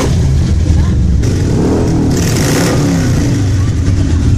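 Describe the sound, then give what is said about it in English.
Hundreds of motorcycle engines rumble loudly and steadily as bikers ride into Oark, a community in the remote mountains of northern Johnson County, Arkansas, for a meal at the historic Oark General Store during Bikes, Blues, and Barbecue; revving surges rise over the low, dense drone with indistinct voices mixed in. “Over the weekend, hundreds of motorcycles rumbled into Oark to have a home-cooked meal at the historic Oark General Store.”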